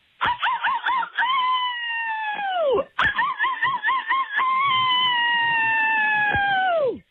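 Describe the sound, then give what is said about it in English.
Two long, loud howls from a person howling at the moon, each starting with a quavering, wobbling pitch before holding a sustained wail that slides downward at the end; clear with no talking. “I have cabin fever. It's making me howl at the moon.”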